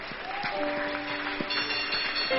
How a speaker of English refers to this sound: Come to the front boldly. Clap hands for Jesus.